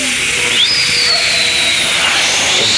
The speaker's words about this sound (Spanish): Jet se precipita hacia el mar cada vez a mayor velocidad. Es como un proyectil que cae en ángulo de 90 grados.